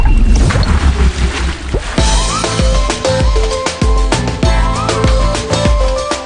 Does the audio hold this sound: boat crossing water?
yes